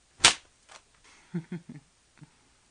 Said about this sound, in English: And when I say I'm going to whip you, you know that I mean with my black leather cat-o'-nine-tails flogger.